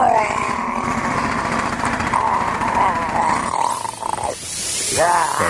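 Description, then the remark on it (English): A steady mechanical whirring of a dental drill runs throughout, with a high-pitched whine that rises and sweeps near the end as the motor revs. “He's going to give his picks, by the way, from the dentist chair. He's back in the dentist chair again.”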